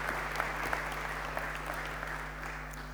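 A room full of people clapping steadily, a dense, even patter of applause that holds at a constant level for the full few seconds, with no voices standing out.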